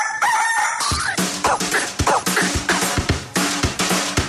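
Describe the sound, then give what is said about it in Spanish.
A single rooster crow, the 'gallo' of the radio station Radioactiva, rings out for about a second on Thursday 17 November, then loud, punchy music with a steady, driving drumbeat takes over. “Señores, aquí vamos con el gallo de Radioactiva en este jueves 17 de noviembre.”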